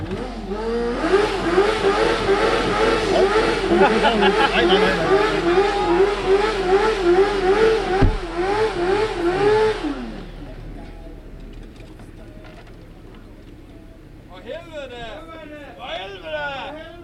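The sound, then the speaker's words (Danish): A car engine revs loudly for about ten seconds, its pitch rising and falling with the throttle, then cuts away, leaving quieter background and brief voices near the end. “Kan vi lige få lidt gas igen?”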